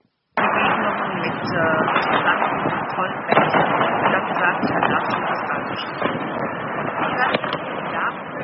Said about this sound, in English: I can barely hear her over those fireworks. Yep, it was an amateur video in every respect. She was off mic. She was trying to send a heartfelt message to those suffering in a war while she was standing in front of New Year's Eve revelers